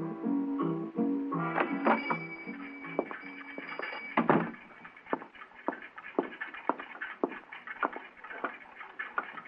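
Several clocks tick at once in a quiet, quaint, inexpensive clock store in Basel, Switzerland, their uneven clicks overlapping steadily, while a short melodic chime plays at the start before giving way to the crowded ticking.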